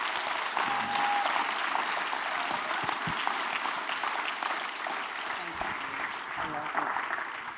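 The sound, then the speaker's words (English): A church audience applauds the pastor's wife, the first lady of the church, in a steady, dense wash of clapping that holds at an even level for several seconds without letting up, with faint voices mixed in beneath it, in the morning. “who is the lady, the first lady of this church, and is worthy, so worthy of just a good round of applause from all of you this morning.”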